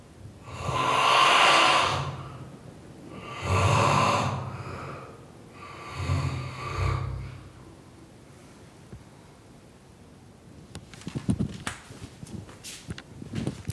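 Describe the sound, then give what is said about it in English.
A man snores: three long, rasping snores come in a steady rhythm a couple of seconds apart, slightly muffled through a closed door, then fade to quiet broken by faint clicks and rustles. “Oh God, he's still snoring. It's unbelievable. Listen to this.”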